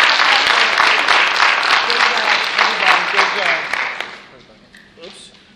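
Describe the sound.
A crowd claps enthusiastically for a new team for about four seconds, dense and steady, with scattered voices mixed in, then the applause thins out and fades to a quiet murmur.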